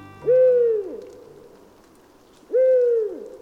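Two drawn-out owl hoots, each a single smooth note that slides downward at the end, separated by a couple of seconds of quiet, clear with no talking.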